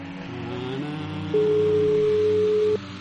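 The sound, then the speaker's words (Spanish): A telephone call's ringing tone, a single steady electronic tone for over a second, clear and fairly loud, over a low humming engine-like background drone. No one speaks. “Ahora pita.”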